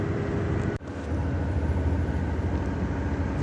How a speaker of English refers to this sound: This bus is making a funny noise going up some mountain in Pennsylvania. I don't know if we're gonna make it to Tennessee.